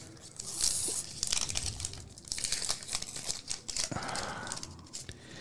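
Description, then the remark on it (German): Crinkly plastic foil crackles and rustles as the last card packet is torn open and its cards slid out, with irregular bursts of crisp crinkling and a short tearing rip partway through, no voices. “So, und letzte Packung. Auf geht's. Da rutsch ich mir das raus hier.”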